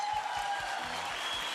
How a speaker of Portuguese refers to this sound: Mais aplausos, mais aplausos.